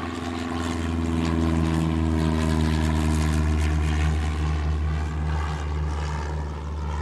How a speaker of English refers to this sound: And so, into the night roars a plane piloted by a lone man, upon whose shoulders rests the fate of this country.